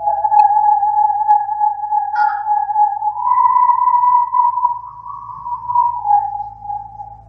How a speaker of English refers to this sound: any type of hose that has the corrugations like this, it's great for producing sound.